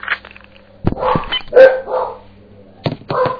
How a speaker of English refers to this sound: Shut up! No! You're rooting. These dogs. They ruined my call. Ah! Ah! Christ on a cracker. Can I make a phone call without you dogs barking?